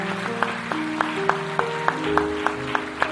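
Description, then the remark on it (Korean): A church audience gives God a big round of applause in thanks for 2024, clapping in a steady, even rhythm, about three claps per second, over sustained keyboard chords. No one speaks. “이 시간 우리 24년도 우리 가정을 붙들어주시고 돌보신 하나님께 큰 박수를 하나님께 올려드립니다.”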